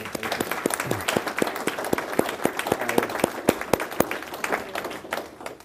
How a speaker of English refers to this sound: In fact, I'd like to give you a round of applause for that.